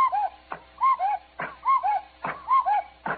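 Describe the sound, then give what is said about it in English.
A cuckoo clock on top of a radio, turned back to four o'clock, strikes four times, each two-note 'cu-coo' call falling in pitch and followed by a sharp wooden clack, in a steady, evenly spaced rhythm. “Dad, the cuckoo hit Lady Bensonhurst on the head 4 times.”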